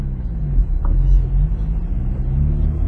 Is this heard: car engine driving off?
yes